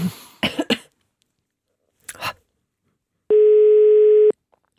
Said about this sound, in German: Und jetzt, weil ihr so freundlich wart, eine Telefonnummer dazu zu schreiben, werden wir mal bei einer dieser Telefonnummern anrufen und gucken, ob jemand zu Hause ist und ich eine schöne Nachricht überbringen kann.